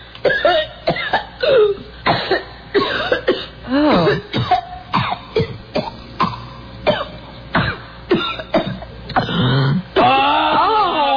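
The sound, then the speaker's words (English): A wet, phlegmy smoker's cough of a Winston Red cigarette smoker, with repeated throat clearing, loud, coming in a rapid series of harsh bursts with a drawn-out gurgling strain near the end. “That's the Winston Reds cough.”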